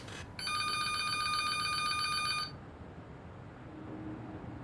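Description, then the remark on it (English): An office telephone, being called for a practice answering call, gives a single bright electronic ring of about two seconds, then cuts off, leaving quiet with a low background hum. “I'm going to call the office phone and let you answer.”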